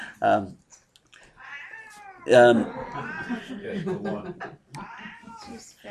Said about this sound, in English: Is that cat in heat? No. Oh, okay.